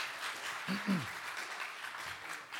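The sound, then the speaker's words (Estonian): An audience gives the worship team a round of applause, a dense steady wash of clapping throughout, with a brief low voice cutting in near the start. “Ma tahan, et me teeksime veel üks Jumal õnnistu aplaus meie ülistustiimile.”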